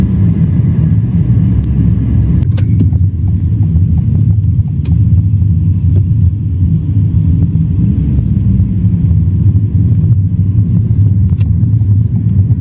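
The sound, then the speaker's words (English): A steady, heavy engine rumble and road roar from a car on the move, loud throughout, with a few faint clicks and rattles over the constant drone; the car is acting as a rear escort for a school bus and a shuttle bus. “you've got a full-blown school bus and a shuttle bus, as well as this car right here acting as a back escort”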